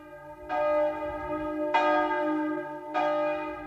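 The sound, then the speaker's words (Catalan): Church bells peal in three evenly spaced, resonant strikes, each ringing tone lingering and overlapping the next, bright and full with no voices present. “Quan van parar de tocar les campanes, va haver-hi un moment de silenci i des de l'altre front, com si fos un senyal, va contestar un alegre i al mateix temps aixordador repic de campanes.”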